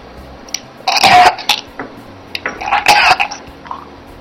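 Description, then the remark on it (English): A woman snorts semen from a shot glass and coughs: two loud, harsh, wet bursts about two seconds apart, each trailed by smaller splutters and throaty sniffs, with no talking. “Yes, a woman snorting cum.”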